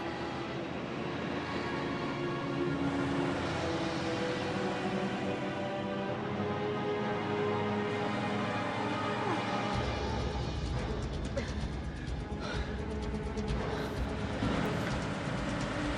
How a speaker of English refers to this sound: What was that? Truck.